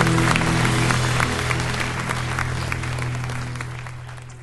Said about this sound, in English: Why don't we just applaud the Lord? He's so good.